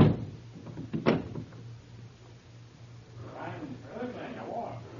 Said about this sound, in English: I lock the door.